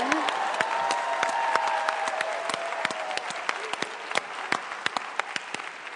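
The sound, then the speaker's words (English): Steady audience applause fills the whole stretch, a dense patter of many hands clapping at a fairly loud, even level, with a faint cheer or whoop early on. “Wait, another round of applause.”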